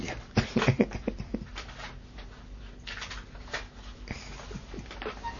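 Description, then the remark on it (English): A dog named Laddie shifts and scrabbles restlessly while being asked to sit down, letting out a few short, soft whimpers early on, followed by scattered scratching and shuffling noises with no one speaking. “That's a good dog.”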